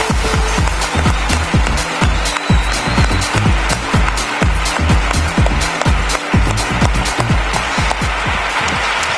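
An audience breaks into loud, sustained applause, a dense rattle of many hands clapping that stays steady and full for about nine seconds without easing off.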